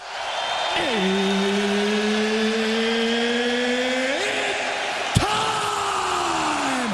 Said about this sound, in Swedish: Ja, så brukar det låta när de största matcherna drar igång under de populära galakvällarna som anordnas av UFC. Förkortningen står för Ultimate Fighting Championship och kan liknas vid andra amerikanska sportligor som NHL, NFL eller NBA.